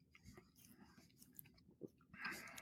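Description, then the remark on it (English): Soft wet chewing and mouth sounds of someone chewing a spoonful of ice cream float, a scoop of ice cream with drink in the spoon, with a few small squelches and a brief slurpy burst near the end, quiet with no talking. “And I take a scoop of it and I get drink in my spoon as well. Okay. So let's do the spoon taste now. So I still chew it.”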